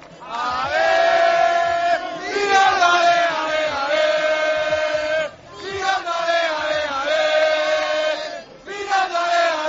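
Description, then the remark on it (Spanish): A crowd of football fans, colchoneros (Atlético supporters) celebrating at Neptuno, chants and cheers loudly in unison, sustained rhythmic shouting that swells in waves with a brief dip around the midpoint before surging again. “Mira, más que contárselo yo, que se lo cuenten todos estos colchoneros que quieren dedicarle un grito.”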